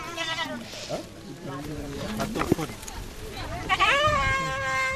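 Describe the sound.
Goats bleat repeatedly at a goat-rearing project run by two community members, several wavering, quavering calls overlapping in a loud chorus, with a longer tremulous bleat near the end and some voices murmuring in the background.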